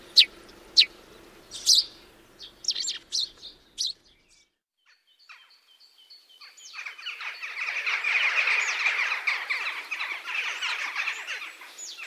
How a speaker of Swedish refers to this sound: Pilfinken är en utpräglad stannfågel. Det är bara ungfåglarna som sprider sig ett stycke ut från häckningsplatsen. Och ett pilfinkpar håller ihop året om. Och de sover tillsammans i en holk eller annan hålighet.